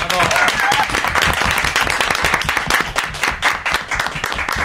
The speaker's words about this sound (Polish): Tak, oklaski, oczywiście, proszę bardzo.